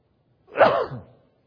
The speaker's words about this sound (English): Good thing I have the microphone on, right? That's what you can hear. I'm sneezing.